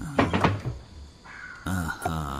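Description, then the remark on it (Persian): A cabinet door is opened with a few quick wooden knocks and clatters, then a lidded steel container is taken out of the cabinet; a voice follows briefly afterward. “از کابینت یه ظرف دردار استیل برمیداره.”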